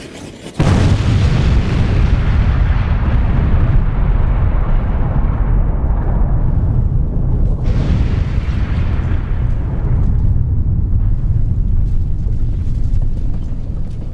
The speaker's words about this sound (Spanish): Y en la medida en que están hablando, la última dinamita central va a estallar.